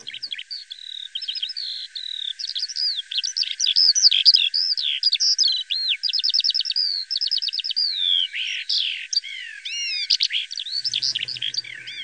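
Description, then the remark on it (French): A Eurasian skylark pours out a continuous, rapid song of varied trills, warbles and whistled chirps, loud, with no pauses for about twelve seconds. “Et il y a un petit oiseau chanteur qui s'appelle l'alouette des champs, qui était un oiseau d'ailleurs assez commun de nos campagnes”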